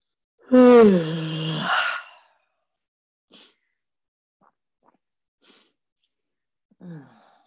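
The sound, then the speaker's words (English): A single long, voiced yawn, falling in pitch and breathy, fairly loud, followed by quiet breaths and faint mouth sounds, then a brief sighing exhale near the end. “And when there's been a yawn, give it a moment to settle.”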